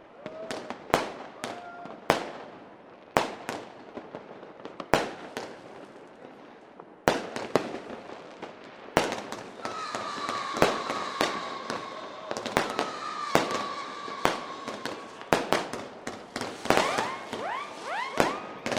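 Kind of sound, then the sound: sound effect, fireworks exploding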